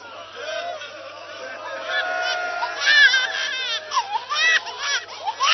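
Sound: infant crying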